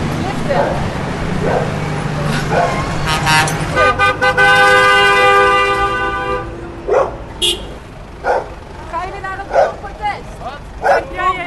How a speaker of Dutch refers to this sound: De stilte van de stromende rivier wordt abrupt verstoord door loeiende tractoren en luide toeters. Een boerenprotest. Allemaal boeren op de snelweg.